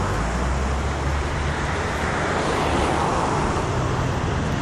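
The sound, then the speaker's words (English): Steady outdoor wind on a windy day rushes continuously at a constant level, recorded with wind-screened microphones, a broad whooshing roar with low rumbling gusts, mixed with a traffic-like hum and no voices. “It's pretty windy today, so hopefully these wind screens will prevent a bunch of noise in the mics.”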